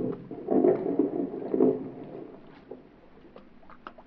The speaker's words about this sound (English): That's what I was doing the day that big speedboat and its passengers first came into my life. The motor was missing. It conked out just offshore.